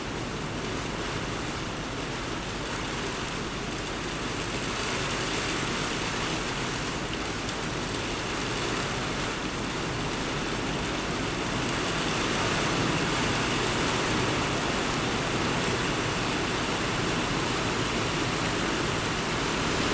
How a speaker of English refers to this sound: Yes. Cleansing rain right now, even if in this moment that you are listening to this, right now, in my eternal now moment. Oh, the rains are pouring down for us.